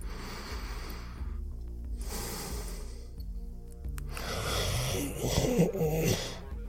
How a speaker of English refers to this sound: Yes. Yes. Starting to moan and snore. Yes, he must have fallen asleep. Yes. Almost as soon as his back hit the rack. Yeah, there he is. Under his flimsy, light blue cover. Big chest moving up and down.